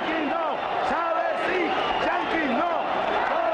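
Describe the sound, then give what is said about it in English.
A large crowd at a Hugo Chavez rally in Venezuela roars back and chants "Yankees no, Chavez yes" in unison, many voices rising and falling in a steady rhythmic cadence, loud and continuous throughout without any break. “The crowd roars back, "Yankees no, Chavez yes."”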